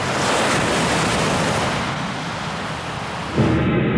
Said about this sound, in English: As the ocean becomes shallower, the wave is forced upward. And when the water gets too shallow, the wave becomes unstable and has to break. In Waimea's case, the water gets real shallow, real fast.